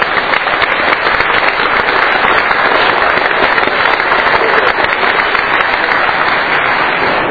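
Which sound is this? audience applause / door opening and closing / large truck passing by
audience applause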